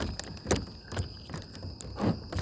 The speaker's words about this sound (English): You're hearing me pick up some water bottles.